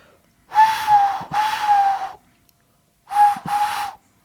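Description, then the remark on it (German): A voice imitates a cuckoo with two breathy, hooting two-note calls, separated by a short pause. Each note is soft and airy, with no other talking. “Ich kann so einen Kuckuck ein bisschen imitieren.”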